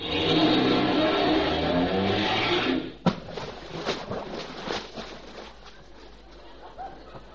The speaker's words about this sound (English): Now you aim your front of your car right for the ramp, see? Then you give her the gas.